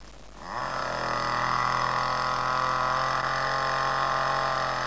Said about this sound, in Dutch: Niks speciaals, maar Marijke maakt die beelden met een kettingzaag.